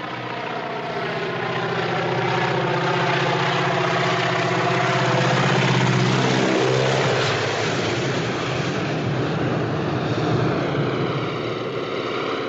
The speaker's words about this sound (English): That in the buildup to this plane dive bombing him, there has been nothing but eerie quiet. He's there, you hear the faint sound of the airplane, you don't know that it's going to be menacing.